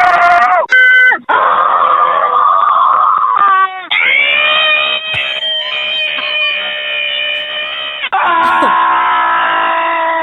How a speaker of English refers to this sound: We have a collection of them, and it is fantastic. Okay, people just screaming to feel better.